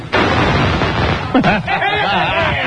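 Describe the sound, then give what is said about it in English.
A color crackling ball firework with a long fuse, tossed after lighting, pops and sizzles in a loud, dense rush of rapid crackles that never lets up, while a voice briefly chuckles over the noise partway through. “It's the color crackling ball.”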